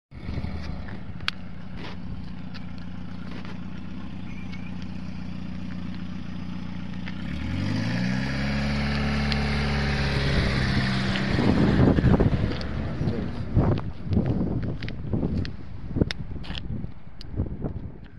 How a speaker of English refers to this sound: I'm going to give this guy who is pulling this trailer with his car through anti-tank mine area, I'm going to give him some props.